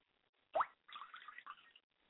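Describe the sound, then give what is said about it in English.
Liquid is poured out as a libation to the north: a single wet plop, then about a second of splashing and trickling onto a surface before it stops. No one speaks. “I pour libations to the north, and I say Ashe.”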